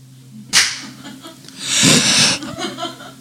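A single sharp hand clap cracks out over a low steady hum, followed about a second later by a longer breathy, noisy burst that sounds like laughter.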